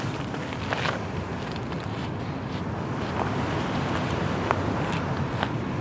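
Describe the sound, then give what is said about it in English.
Gentle waves of San Francisco Bay lap steadily against a shore at night under scattered clouds, with soft recurring splashes over a constant low rumble of water and breezy wind noise, no voices present. “Scattered clouds, the lovely halo around the moon, and you can hear the gently lapping waves of the bay.”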